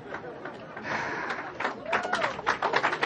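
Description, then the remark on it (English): Thin, scattered applause from about half of the audience in a room: irregular claps pick up partway through over a steady murmur of crowd chatter, never building into full clapping. “And do y'all notice that half the room wasn't applauding?”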